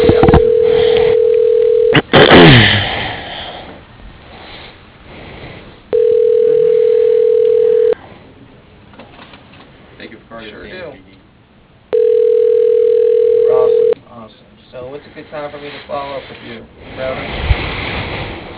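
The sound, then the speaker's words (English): A steady telephone ringback tone sounds in three evenly spaced two-second bursts while a call is transferred and forwarded to a Shortel voicemail system, loud and clear, with a brief burst of speech and soft background noise filling the gaps between them. “Press 4 for please hold while I transfer your call.”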